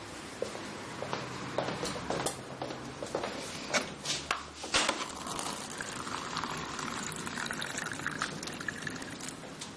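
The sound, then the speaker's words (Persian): Water pours steadily into a glass late at night, a continuous bubbling, gurgling stream with small splashy bursts, lasting several seconds at a modest volume with no one speaking. “من این وقت شب کشونی اینجا آب میذاری جلام؟”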